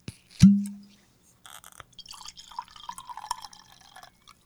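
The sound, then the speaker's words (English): A single hollow clunk, then about three seconds of cold-aged sake being poured into a glass, a gurgling trickle with shifting pitch. No one speaks. “Should we get it in the glass?”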